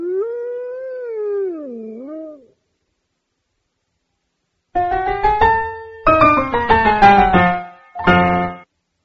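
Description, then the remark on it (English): A wolf howls once, a long wavering cry that rises and falls, then after a short silence several loud overlapping howls and yelps come in bursts, with no one talking. “The wolf ate all the sheep.”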